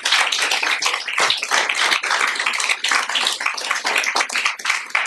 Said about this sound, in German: Wir geben mal den Mitarbeitern einen fetten Applaus, was sie da geleistet haben.